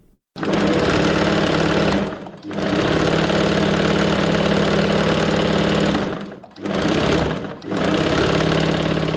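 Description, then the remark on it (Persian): The sewing machine of a 40-year-old tailor in Qala-e Zaman Khan, Kabul, runs in steady, dense mechanical bursts, stopping briefly twice before starting again, loud with no voices. “صدای ماشین خیاطی”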